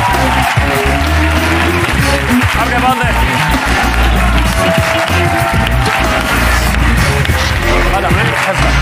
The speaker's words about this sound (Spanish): Y está aquí un aplauso para Jorge Ponte en La Resistencia.